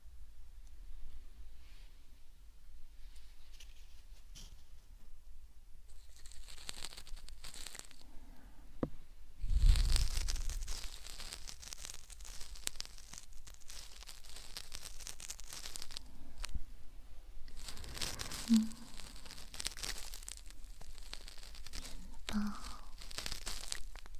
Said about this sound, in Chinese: 轻轻地刮着你的耳道，沙沙的声音，想不想在纸上写字啊？或者，兔子跑过草地